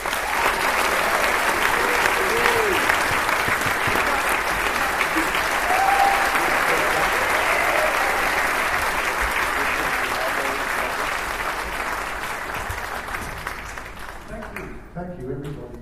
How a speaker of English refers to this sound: Please make welcome to stage with a big round of applause